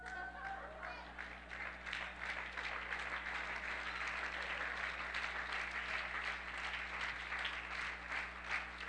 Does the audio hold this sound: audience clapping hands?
yes